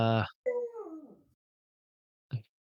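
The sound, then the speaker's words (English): A voice imitates the other speaker's dog heard in the background: a short, low harmonic yelp, then a longer whine sliding downward in pitch, and after a pause one more brief yelp. “I heard your dog be like, in the background.”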